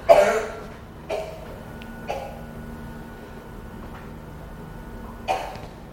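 coughing

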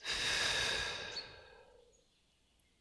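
deep inhale followed by

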